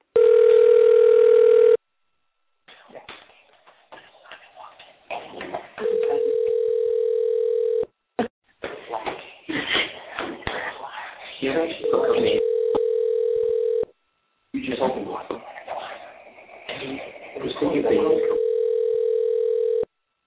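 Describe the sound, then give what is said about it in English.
An outgoing call's ringback tone purrs in steady bursts, about four rings spaced several seconds apart, while people talk quietly between and over the rings. “All right, I'm going to call her right now.”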